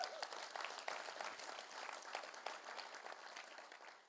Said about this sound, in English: Come on, it's true. Give the Father a round of applause.